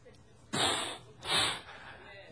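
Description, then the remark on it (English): A man imitates a mad bull snorting: two forceful, breathy nasal blasts in quick succession, fairly loud, with no words spoken. “I want you to think of a mad bull. You know how they will snort?”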